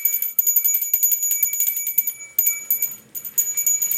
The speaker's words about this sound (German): Der ist häufig am Handy oder spielt mit meiner Glocke, die ich letztes Jahr zum Lichtern bekommen habe.